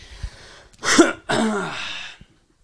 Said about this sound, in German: Katastrophe mit diesem Husten.